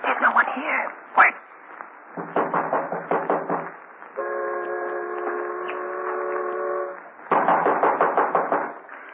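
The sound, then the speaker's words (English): A rapid run of sharp knocks on a door at the end of a dark passageway, coming in two clustered bursts, loud, with a steady whistling tone sounding in between. “Just go up to the door, and I'll knock.”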